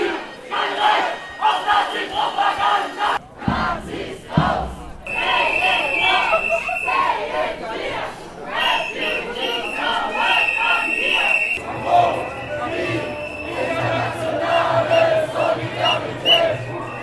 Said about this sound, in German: Nach der langen Startkundgebung am Bahnhof zogen die Demonstrierenden lautstark durch Karlsruhe-Dorlach.